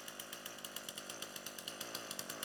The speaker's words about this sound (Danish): Og I ved godt, det må man ikke. Det må man ikke, men jeg har simpelthen så meget lyst til at se jeres ansigt, når jeg tændte en motorsav på scenen.